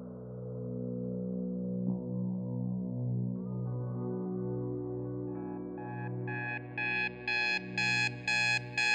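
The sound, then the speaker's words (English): An alarm clock starts beeping in rapid, evenly spaced electronic pulses that grow steadily louder, rising out of a low, droning electronic hum with no one speaking. “The alarm goes off.”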